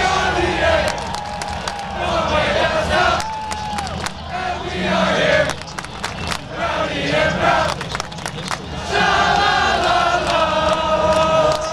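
fans cheering

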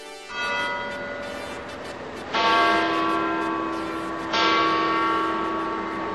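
church bells ringing

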